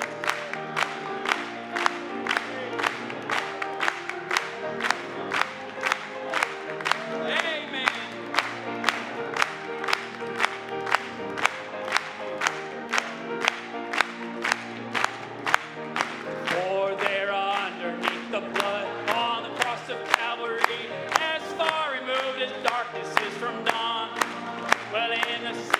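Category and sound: crowd, audience clapping and cheering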